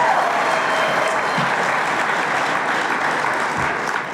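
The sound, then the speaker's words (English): An audience bursts into steady, sustained applause as a show of remembering the restaurants Clinker Dagger, Bickerstaff, and Pets: a dense wash of many hands clapping at an even loudness for several seconds before tapering slightly at the end. “So, how many in the audience, by show of applause, remember Clinker Dagger, Bickerstaff, and Pets?”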